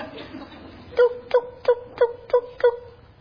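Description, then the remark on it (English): A turkey hen yelps six times in a steady, evenly spaced series, each call short, sharp and fairly loud, following a brief stretch of low background noise. “Toop, toop, toop, toop, toop, toop, toop. That sounds like a hen.”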